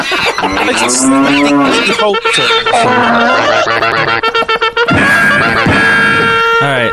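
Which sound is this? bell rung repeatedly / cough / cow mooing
cow mooing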